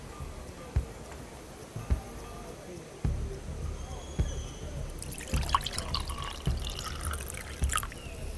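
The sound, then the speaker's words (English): Tea with fruit juice is poured steadily into a cup during a wedding ceremony, a splashy trickle starting after several soft knocks and lasting a few seconds, moderately loud. “Chimi will now come to pour the elixir of love for us.”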